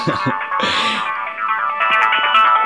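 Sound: mobile phone ringing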